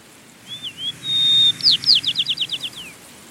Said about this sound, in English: And certainly different songbirds in the spring. In the springtime, there would be a lot of songbirds around here. And some of the things we would have been hearing are like that local dialect of the Nuttall's white-crowned sparrow.